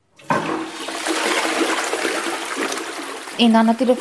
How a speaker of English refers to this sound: Hester says the family doesn't flush the toilet often anymore because it uses too much water. When they do, it's with recycled water.